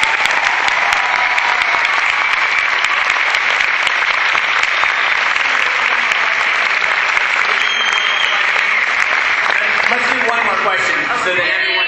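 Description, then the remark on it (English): Sustained, loud applause from an audience for the guests at the end of a Q&A fills the whole stretch, a dense wash of clapping holding steady throughout, with faint voices and cheers mixed in near the end. “Can we get a big hand of applause for our guests?”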